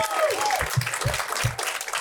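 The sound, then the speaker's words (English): A crowd applauds with steady, dense hand clapping throughout, joined by a few whoops and cheers rising above the clapping. “Can we just give a hand clap and a round of applause to all the people who showed up early to do all this work?”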